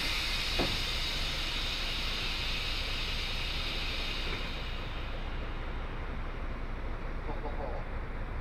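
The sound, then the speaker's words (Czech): A loud, steady rush of air hiss fills the space for several seconds, then tapers off as rear vehicle doors open pneumatically, with a faint knock near the start and low rumbling beneath. “A otevřem si i ty zadní.”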